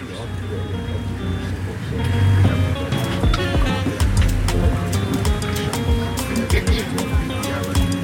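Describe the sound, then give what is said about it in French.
Riding in the back of a moving truck on the way to the Pipeline clinic, supported by Médecins Sans Frontières, as the driver weaves between keke three-wheeled taxis: a steady, loud rumble of engine and road noise with wind rush, broken by sharp rattles and metallic clunks as it bumps along. “Aujourd'hui, nous sommes mardi et je suis en route pour la clinique de Pipeline, soutenue par Médecins Sans Frontières.”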